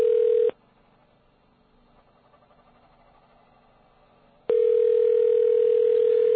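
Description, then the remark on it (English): A telephone ringback tone purrs through the line in two steady bursts, separated by about four seconds of quiet hiss, as a call to a landline, dialled with 9 to get an outside line, goes unanswered and nobody picks up. “You'll get to hear his answering machine message if he doesn't answer.”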